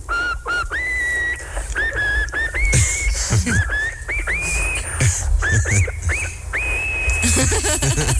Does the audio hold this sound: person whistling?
yes